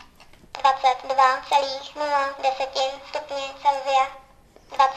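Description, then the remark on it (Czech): A high, slightly comical synthesized voice from a talking thermometer announces the indoor temperature of the room, 22.0°C, in one clear phrase lasting a few seconds, and another phrase starts right at the end. “A on má trošku legrační hlas, ten výstup se teda pustíme.”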